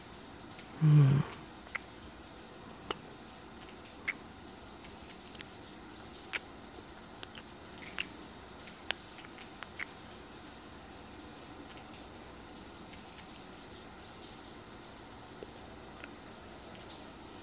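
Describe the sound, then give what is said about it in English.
Shower water runs in a steady, even hiss throughout, with a short low thump near the start and faint scattered drips and taps over the spray. “Fucking, killing, stalking, now a shower.”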